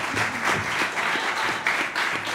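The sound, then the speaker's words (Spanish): A crowd applauds steadily with dense, overlapping claps that stay fairly loud and even throughout, like an audience clapping together. “quiero que demos un aplauso por favor a …”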